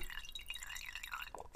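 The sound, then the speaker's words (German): Lemon juice squeezed into a glass of water held in a wine glass: a brief run of bubbly, trickling drips splashing into the liquid, with no voices. “Ich sitze nicht auf Toilette, ich mache jetzt Spritzer rein.”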